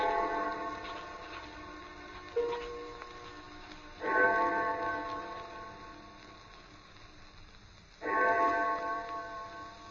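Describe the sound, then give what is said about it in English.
The distant clock of St. Jude's church strikes four o'clock, tolling in slow, evenly spaced strikes, each deep ringing note swelling and then fading into a long hum before the next. “I had no idea how long I worked until I heard the clock of St. Jude's in the distance. It was 4 o'clock”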